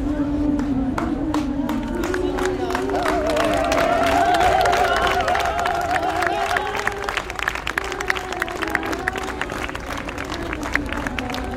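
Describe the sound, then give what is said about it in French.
A crowd of protesters dressed as handmaids in bright red capes applauds on a Wednesday in Paris's 7th arrondissement, home to government ministries, with dense, steady clapping throughout and sustained voices cheering and calling out beneath it at a loud, even level. “Les applaudissements des servantes écarlates.”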